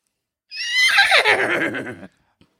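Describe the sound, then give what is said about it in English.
A single loud horse whinny, starting high and shrill, then dropping into a rapid, shuddering nicker before cutting off. Clear, with no talking over it. “I gotta say, I think he's a horse.”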